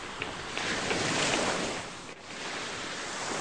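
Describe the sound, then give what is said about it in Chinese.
Ocean waves wash onto a sandy beach in a steady hiss, one swell rising and fading into a brief lull before the next wave rolls in. Fairly full, with no voices. “大海掀起了温柔的波涛，拍击着美丽的沙滩。”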